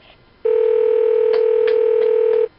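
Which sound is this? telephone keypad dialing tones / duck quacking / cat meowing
telephone keypad dialing tones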